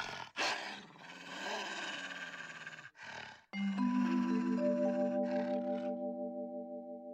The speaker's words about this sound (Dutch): De wolf sluipt op Lamberts moeder af. Ik ga je opeten, gromt hij.